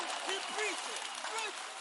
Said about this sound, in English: Clap your hands for the failure around you God is bringing.